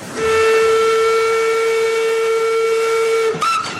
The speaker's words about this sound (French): Une locomotive à vapeur, 126 ans au compteur, qui reprend du service pour l'hiver. Elle crache sa fumée direction le Far West Picard, la baie de Somme. Et la locomotive est particulièrement ancienne, celle-ci. C'est la grand-mère de la série.